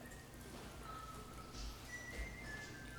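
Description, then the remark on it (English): A person whistles softly, drawing out a few long, steady notes that shift in pitch against a faint, hissy background. Nobody speaks. “Whistling in church, glory, hallelujah.”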